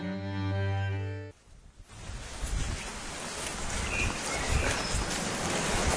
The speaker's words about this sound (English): And I ask you, as we listen, to ignore the sounds of the wind and the rain, but do enjoy the chirping of the birds.